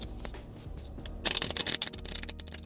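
A deck of cards is shuffled in a quick, crisp burst of rapid flicking clicks lasting under a second, over a soft, steady low musical hum in the background.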